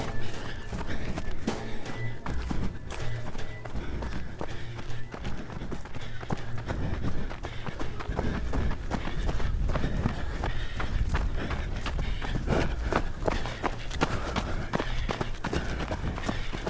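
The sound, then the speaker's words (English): Running footsteps pound out a steady, quick rhythm for the whole stretch, each stride a sharp thud or crunch over a constant low rumble, with no talking. “It's nothing else in my mind but my feet and my rhythm, my breathing.”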